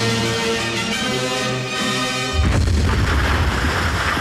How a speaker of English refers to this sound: Well, that's why I replaced our usual little dinky concert cannon with a 21-ton megablast cannon. Wow. Codenamed Thor's Hammer. Thor's Hammer.